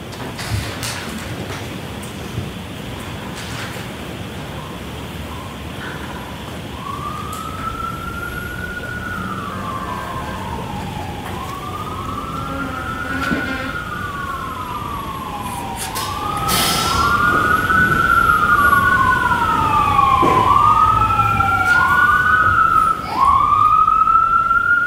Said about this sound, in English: If you could wait, Mr. Wolk, until the sirens pass.